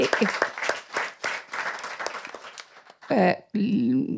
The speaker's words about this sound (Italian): L'applauso lo riporto e non me lo prendo perché non è un merito mio.